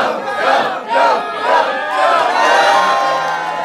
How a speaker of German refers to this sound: Zum Beispiel einen Schwenk über die Golden Gate Bridge. Dieser Schwenk ist so aufreizend langsam, dass das Publikum ihn anfeuert.